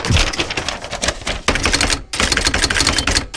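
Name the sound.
typing on a typewriter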